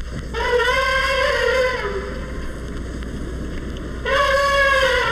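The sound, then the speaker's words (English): An Indian elephant trumpets twice, each a loud, brassy, sustained blare rich in harmonics lasting over a second, separated by a pause filled with low rumbling noise. “More famed is the elephant for its trumpeting.”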